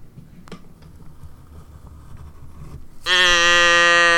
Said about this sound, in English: did we just get mooed in? We did, Danielle. I didn't even ask to get mooed in. I know. It happened completely out of the blue, out of the moo.